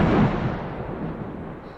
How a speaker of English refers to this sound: Fuck. Sorry about that. I got scared. Remember the things we did to distract ourselves from the thunder?